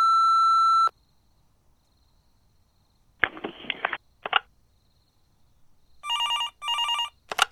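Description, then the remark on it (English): An answering machine gives a single steady electronic beep lasting just under a second. Brief clattering bursts follow after a pause, then two trilling electronic phone-like rings and a final sharp click. “Leave a message at the beep.”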